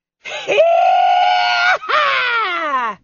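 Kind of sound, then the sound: human body sound, woman screaming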